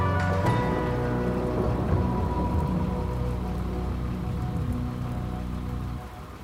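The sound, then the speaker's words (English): Heavy rain pours steadily onto hard surfaces, a dense, continuous patter that stays loud throughout, easing only slightly at the very end. No one speaks. “What the hell are you all doing out in the rain like this?”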